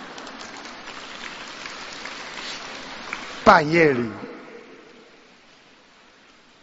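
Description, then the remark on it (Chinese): Steady crackling applause from an audience at a talk fills the first few seconds, then fades as a man starts speaking over it and the room goes quiet. “还没鼓掌完呢”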